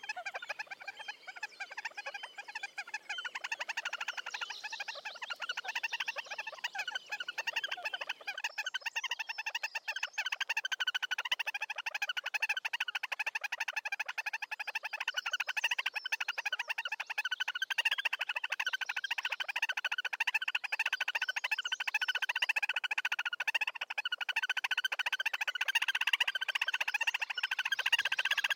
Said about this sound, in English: And this call develops into a crescendo leading up to mating, One bird is on the platform as the other sits close by.